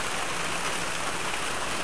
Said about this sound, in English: Boy, it sounds like it's raining big time now. It is, but it's not big time.